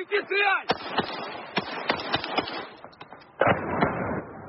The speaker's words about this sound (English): Then came an early morning barrage of Russian drone attacks on the city. Policemen recorded one of those drones as they tried, in vain, to shoot it down.